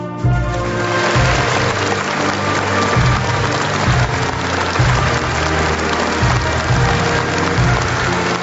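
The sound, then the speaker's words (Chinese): Loud, sustained applause from a large standing crowd honoring recipients of national medals and national honorary titles, a dense, steady crackle of clapping that never lets up, with deep rhythmic music faintly sounding beneath it. “全体起立，让我们再次用热烈的掌声向国家勋章和国家荣誉称号获得者致以崇高敬意。”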